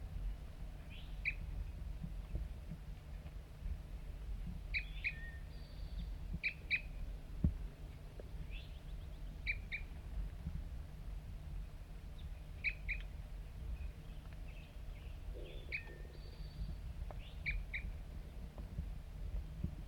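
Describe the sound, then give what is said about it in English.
A lone wild bird nearby gives repeated short, high chirping calls in loose pairs and clusters, spaced every couple of seconds, over a steady low rumble of background noise. “One lone bird. And it's real nearby right now.”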